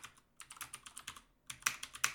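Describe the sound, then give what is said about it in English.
Rapid clicking of keys on a computer keyboard, typed in two quick bursts separated by a short pause, with a few sharper, louder keystrokes near the end. No voices. “Typing sounds.”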